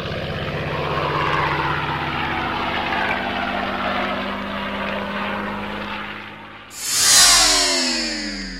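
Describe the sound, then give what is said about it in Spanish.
World War II propeller aircraft flying over the city with a steady droning engine roar and low throbbing hum, swelling and then sweeping past with a sharp falling pitch. No voices. “Por otro lado, en la ciudad hubo un sobrevuelo de aviones de la Segunda Guerra Mundial.”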